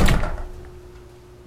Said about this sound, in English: He drips into her living room area, and she shuts and locks the door behind him.